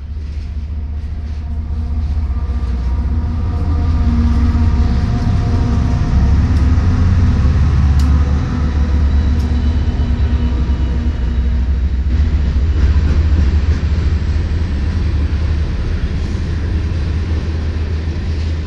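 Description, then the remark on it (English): A heavy freight train of brand new oil tanker cars full of oil, headed east through Fridley, Minnesota, rolls steadily past, its deep low rumble and rhythmic clatter of wheels on rail continuing smoothly without pause, with little banging and no voices. “The train you're hearing now is comprised of brand new oil tankers full of oil headed out east.”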